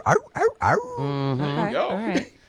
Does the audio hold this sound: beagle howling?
yes